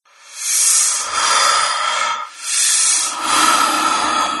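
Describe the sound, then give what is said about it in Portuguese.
Heavy, forceful breathing with about four long, harsh, airy breaths in a steady rhythm, each a loud hissing rush of air with only brief pauses between them. No voices are heard. “Até que ela passa a ouvir a respiração. Forte e ofegante.”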